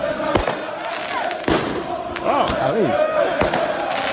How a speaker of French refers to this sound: Les supporters toujours là avec des feux d'artifice hier devant le Parc des Princes.